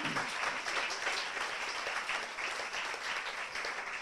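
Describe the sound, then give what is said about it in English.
An audience at a small business event at the Vanilla Bean Cafe in Pomfret applauds three panelists steadily, dense overlapping claps forming a sustained, even wash of sound at moderate loudness with no voices. “A nice round of applause for these three people who are making it happen here.”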